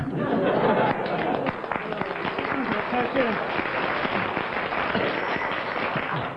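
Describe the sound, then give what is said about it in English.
An audience breaks into steady applause, a dense wash of many hands clapping at once, held at an even level for several seconds with a faint murmur of voices underneath. “I don't know why you clapped.”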